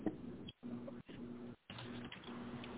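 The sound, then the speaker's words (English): A pet bird coos in low, soft, throaty phrases, repeating in several bursts separated by brief pauses, with no one talking. “Pretty bird.”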